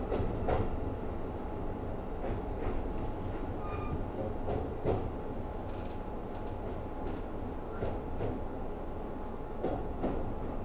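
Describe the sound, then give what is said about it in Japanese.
A Keikyu line train bound for Kanazawa-bunko runs steadily along the rails, with Keikyu Kamata as the next stop: a continuous loud rumble with rhythmic clacking of wheels over track joints and occasional faint metallic squeals, heard from inside a moving carriage. “ただいまこの放送が入っている万葉亭、放送が入っている万葉亭は途中の金沢文庫通りの列車です。次は京急蒲田です。”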